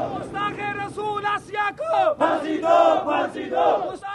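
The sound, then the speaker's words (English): A small crowd of black-bearded men protesting after Friday prayers in Rawalpindi, Pakistan, chants loudly in unison "the blasphemer, hang her", their voices rising and falling in rhythmic, shouted phrases with brief pauses between bursts. “Asya, the blasphemer, hang her, chants this small crowd of black-bearded men after Friday prayers in Rawalpindi.”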